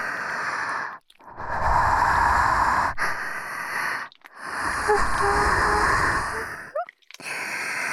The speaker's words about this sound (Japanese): わかるか？わらわの吐息が竜の息吹のごとく熱くたぎっているのか。ロリロリ吸血鬼の発情吐息、耳の奥までじっくり感じろ。